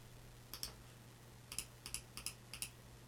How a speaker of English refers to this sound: Can hear me clicking away. Bits of silence. The old mouse clicking.